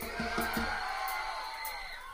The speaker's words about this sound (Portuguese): Então vamos fazer o melhor agora. Dá um grito pra Jesus ouvir.